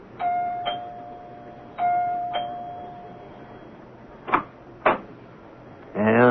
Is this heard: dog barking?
no